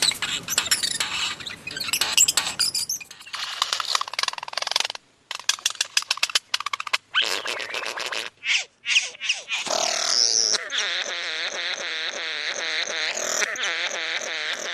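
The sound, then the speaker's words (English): Bowerbird calls recorded by David Stewart: harsh rasping churrs and a run of rapid clicking, buzzing notes, then a long wavering mechanical-sounding warble, loud with no speech. “The beautifully recorded by David Stewart, the Bowerbirds was the family in question.”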